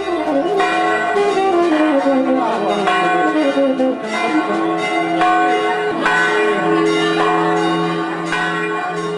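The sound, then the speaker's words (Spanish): A loud peal of church bells from the sanctuary of the Virgin of the Flowers in Italy rings continuously, with overlapping strikes and long, shimmering tones blending together throughout. “El zarzal florecido que se ve todavía vigoroso detrás de la verja del santuario en Italia, cuyas campanadas escuchamos recién, es de Prunus espinosa, conocido vulgarmente como endrino, espineta o espina negra.”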